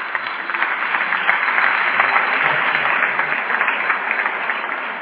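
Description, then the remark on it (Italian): Sustained off-camera applause from a crowd for two professors of Sapienza University, a dense steady patter of many hands clapping at an even loudness for about five seconds, with no voices over it. “e forse vi possiamo fare anche un applauso fuori campo.”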